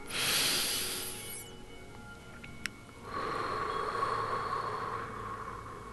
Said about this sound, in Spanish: Respira profundamente.